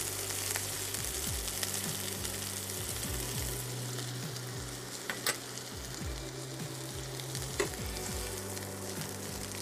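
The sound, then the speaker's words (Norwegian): Chicken sizzles steadily in a hot pan, a dense crackling hiss with a low hum underneath and a couple of brief sharper pops, no one speaking. “Og da er det egentlig bare å slenge den tilbake i panna.”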